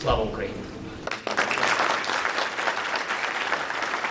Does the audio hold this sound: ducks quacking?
no